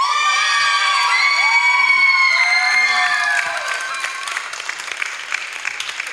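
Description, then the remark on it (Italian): A dance group of young voices shouts its loud, sustained cheer together for about three seconds, then it breaks into scattered crowd noise and clapping as the shout fades. “volevo risentire quel grido che fanno quando è Les”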